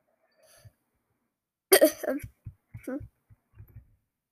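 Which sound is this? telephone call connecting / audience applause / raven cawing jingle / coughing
coughing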